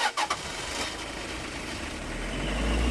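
car engine running

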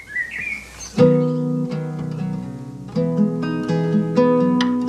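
birdsong

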